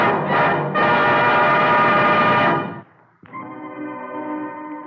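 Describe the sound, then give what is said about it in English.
A train whistle from an early morning train sounds in two long, loud blasts, the first steady and full, the second slightly thinner after a brief pause, with no voices present. “the gray of the next morning, Pinkerton was awakened by Slocum's manservant, Binney, who told him that the suspected murderer was rushing to escape on an early train.”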